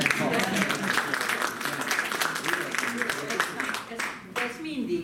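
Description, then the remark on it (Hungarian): Sustained audience applause, a dense crackle of many hands clapping at an even loudness for several seconds, with faint voices mixed in beneath it. “Azt hiszem, egy tapsot ez meg.”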